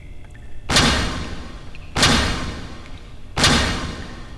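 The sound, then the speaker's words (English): Three heavy, booming thuds strike at a steady, unhurried pace on an enormous iron door at Deck Q, each impact ringing out broadly and fading into a low rumble before the next. “A welcome mat sits outside the enormous iron door.”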